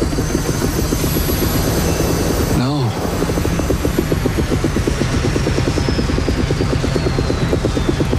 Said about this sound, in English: Is that how a helicopter's supposed to sound?